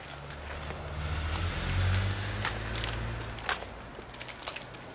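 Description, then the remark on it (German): A low engine drone swells briefly and then fades steadily as a car drives away, with a few faint scuffs and clicks and no voices. “Wir konnten noch nicht mal sehen, mit was für einem Wagen der Blonde davon gefahren ist.”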